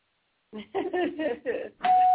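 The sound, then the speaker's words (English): A doorbell rings: a steady, buzzy electronic tone holds one pitch for the last moments, right after a short run of muffled, voice-like sounds. “More news at the door.”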